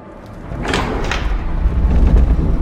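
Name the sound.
trap door opening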